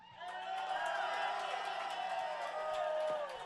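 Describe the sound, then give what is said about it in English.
An audience at a show cheers and claps at encore time in a steady, loud wash of voices and applause, with high whoops rising above the crowd noise for about three and a half seconds before easing off. “I really appreciate the unsolicited claps.”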